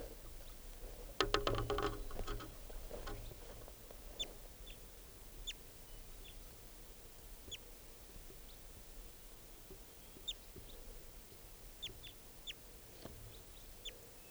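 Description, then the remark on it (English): A wild bird, recorded at 7:25 a.m., calls with short, high chirps repeated at irregular intervals over a steady low background hum, with a brief burst of rough, clucking noise near the start. “Recording that wild bird.”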